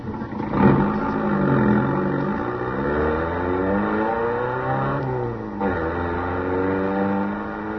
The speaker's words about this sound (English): All right, now get the car started.